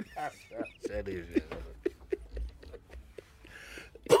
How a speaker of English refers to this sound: Sorry, you bring about my cough now.